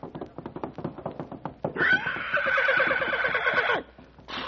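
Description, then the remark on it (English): A run of quick clip-clopping hoofbeats gives way to a loud, shrill horse whinny that wavers for about two seconds, clear, with no talking over it. “He is now a horse.”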